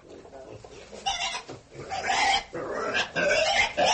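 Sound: pig squealing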